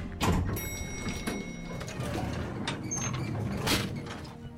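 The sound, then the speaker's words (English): A door is pushed open with a grinding, scraping rattle and a brief high squeal as people pushing through get wedged in the door. Fairly loud, with no voices. “Oh, we got wedged in the door.”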